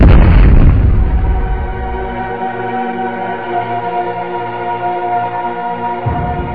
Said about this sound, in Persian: یک هفته بعد از انفجار 8 شهریور ماه آیت الله قدوسی، دادستان کل کشور و مسئول پرونده، در اثر انفجار بمب در محل دفتر دادستانی شهید می شود.